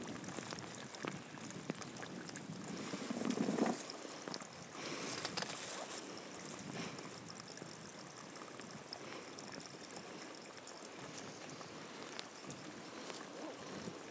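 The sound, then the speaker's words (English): Water dripping and trickling in a steady, continuous stream, a bright splashing hiss that holds at an even level throughout with a brief swell early on. No voices are heard. “There's another drip of water. It sounds like someone having a wee.”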